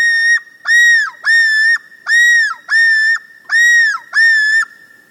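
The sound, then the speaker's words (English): A male common loon's yodel on its northern lake breeding territory: seven loud, repeated wailing notes, each rising then dipping in pitch, delivered in a steady rhythm with short gaps between them and no voices present. “Once back to those shining northern lakes, the males will again launch their yodel.”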